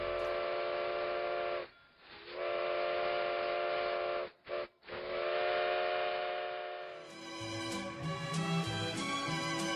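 A steam train's whistle sounds in several long, loud blasts separated by brief pauses, then gives way to a rush of hissing steam and mechanical clatter as the engine pulls into the North Pole.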